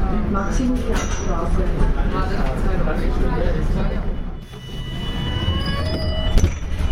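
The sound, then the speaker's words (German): A subway train rumbles through an underground station, a steady loud roar with high metallic wheel squeals rising and fading, and indistinct voices murmuring beneath it. “Und dann sind wir auf diesen U-Bahn-Sound gekommen, der ja so ganz krass vor allem am Plärrer ist.”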